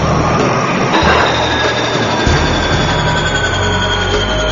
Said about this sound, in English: He's doing a final check that the auxiliary power unit he fixed is working and starting up the Electra's 4 turbine engines.